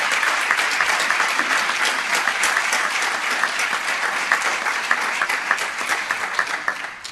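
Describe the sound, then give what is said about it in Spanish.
Sustained audience applause for four students at the official closing ceremony of the UMH 2020-2021 academic year, in the assembly hall of the rectorate building, a dense steady patter of many hands clapping at an even, loud level for several seconds, easing slightly toward the end. “El aplauso para esas cuatro estudiantes.”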